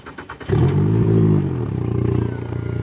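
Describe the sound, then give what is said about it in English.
A motorboat engine on a boat tour on Apalachicola Bay, Florida, sputters briefly, then roars to life loudly, revving up before settling into a steady, throbbing drone. No one speaks. “To get a look at what's happening at the southernmost point of the Georgia-Florida water dispute, I take a boat tour with Apalachicola riverkeeper”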